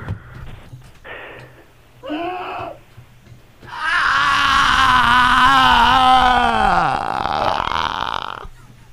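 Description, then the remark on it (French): A long, loud, drawn-out burp rumbles for several seconds with a wavering, groaning pitch, preceded by a few short vocal grunts and noises. “Excusez-moi, j'ai un pet qui ne sait pas de quel côté sortir.”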